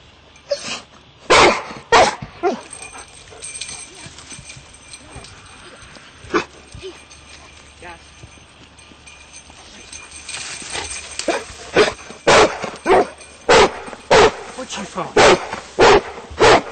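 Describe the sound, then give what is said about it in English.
A search and rescue dog barks loudly and sharply during an air-scenting search training demonstration, finding a person up in a tree: a few barks at first, a lone bark after a pause, then a faster run of repeated barks toward the end. “I'm in a tree and I've got a search and rescue dog about to rescue me.”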